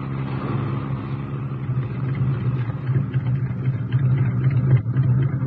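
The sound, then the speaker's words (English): A car engine hums steadily with a low, rumbling drone, holding an even pace as the car drives slowly through a forest toward big, electronically controlled gates, with no voices. “and drive off into the depths of the forest”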